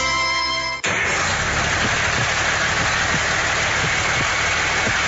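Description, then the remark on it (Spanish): A heavy truck engine rumbles steadily and loudly, a dense, rough idle that follows a brief tonal hum at the start and continues without a break. “Así late el corazón de los más grandes, porque se acerca la versión 29 del Gran Premio Nacional Móvil del BAC de Tractomulas y Camiones Livianos.”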